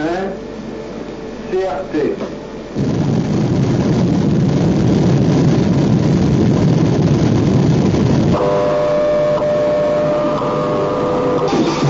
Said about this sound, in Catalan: D'aquesta manera sona una explosió nuclear subterrània. 5, 4, 3...